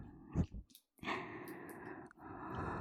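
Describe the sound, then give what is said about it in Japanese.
A soft, airy breath blown right into the microphone, a steady close hiss lasting a couple of seconds after a brief low puff, with no talking. “やっぱ吐息弱いんだ。”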